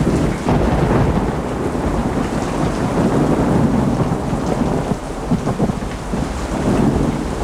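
rain

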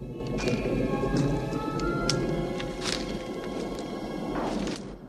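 thunderstorm with rain

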